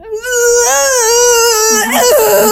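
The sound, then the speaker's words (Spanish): A voice imitates the strangled, choked whimper that came out when trying and failing to scream in panic: a strained, high, wavering cry held for about two seconds that cracks and breaks up at the end, loud and with no other talk. “O sea, que literal traté de gritar y no pude gritar. A mí lo que, el sonido que me salió fue...”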